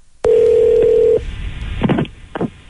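A telephone line hums with a steady, loud dial tone for about a second, then cuts off, followed by a few brief muffled bursts as a prank call to Viridian Marketing is dialed.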